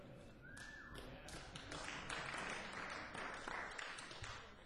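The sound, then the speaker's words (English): A thin smattering of applause: a few people clap unevenly, producing scattered sharp, bright claps of moderate loudness that keep going for several seconds without building into a full ovation. “That's what I call a real smattering of applause.”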